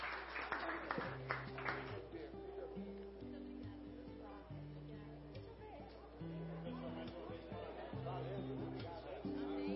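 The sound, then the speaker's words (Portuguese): An audience in Anápolis applauds the Atleta do Futuro project, dense steady clapping filling the whole clip at an even level, with a low melodic tone and some voices running underneath. “Salva de palmas para o projeto Atleta do Futuro.”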